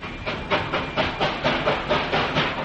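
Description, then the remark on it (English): New locomotives coupling with cars and shunting freight cars in a railroad yard in Seoul, 1950, as the night train to Busan is made up: a steady, rhythmic run of steamy chuffs and hiss, moderately loud, with no voices. “New locomotives are coupling with the cars.”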